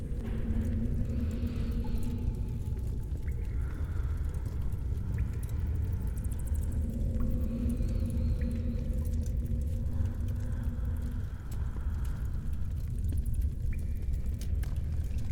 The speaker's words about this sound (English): Now, listen to my breathing, human.